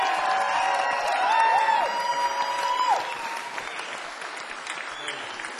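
A crowd in Franklin applauds steadily, with a few sharp whistles and cheers rising over the clapping early on, then the applause tapers slightly but keeps going to the end.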